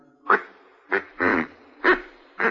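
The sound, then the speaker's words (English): A duck call, ordered from St. Louis and delivered by mail, is blown in five short, nasal quacks, one slightly longer, spaced unevenly, over a low background hum with no talking. “Oh, this is a duck call.”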